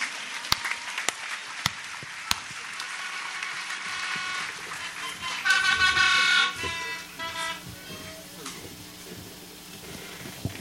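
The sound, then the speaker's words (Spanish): Crowd applause at a religious gathering fills the space while cornet blasts sound over it, with a loud, sustained honking stretch in the middle before the clapping continues more quietly. “El último aplauso a esa muchacha, María Santísima.”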